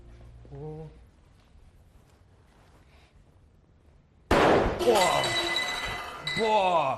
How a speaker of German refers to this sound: zündet den ausströmenden Wasserstoff an. Jetzt aber alle in Deckung. Gleich knallt's.